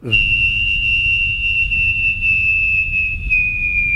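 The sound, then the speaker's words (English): A person vocally imitates a jet landing: a loud, sustained high whistle that slowly glides downward in pitch over a steady low roaring rumble, lasting about four seconds without any talking. “Is that a jet landing or what, man?”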